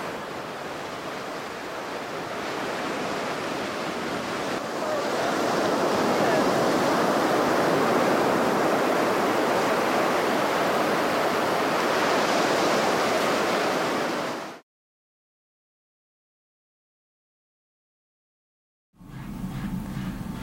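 Heavy ocean surf roars continuously, waves crashing in a dense, loud wash that swells midway, then cuts abruptly to silence before a brief burst of low rumbling returns.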